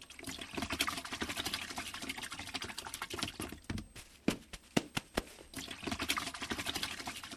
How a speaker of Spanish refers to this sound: Ya mero termino llenando el primer tanque.